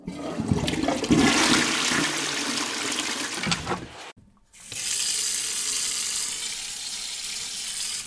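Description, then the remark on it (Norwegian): A toilet flushes with a loud, rushing surge of water that cuts off abruptly, followed after a brief silence by a steady hiss of the tank refilling. No one speaks. “Vent, jeg må bare på do først.”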